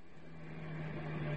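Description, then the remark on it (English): A steady, low engine hum drones on with a constant pitched tone from an old car that is overdue for the scrapyard, moderately quiet and slowly swelling a little in loudness, with no voices. “Whatever made you pick this car”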